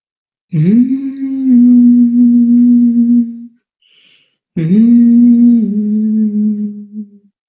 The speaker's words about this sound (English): When you can't think of words, you hum. When you can't think of a prayer, you hum.